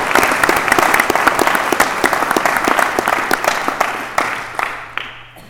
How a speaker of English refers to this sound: In closing, can I please ask y'all to give our lovely panel a round of applause.